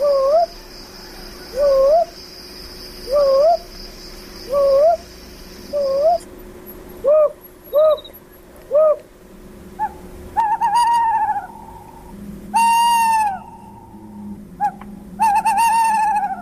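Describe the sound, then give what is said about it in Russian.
A сыч, a small owl species, calls repeatedly in short, rising hoots at a steady rhythm, later joined by sharper, louder yelping calls, with a faint background hiss and no voices. “Кстати, а кто такой сыч? Вид мелких сов.”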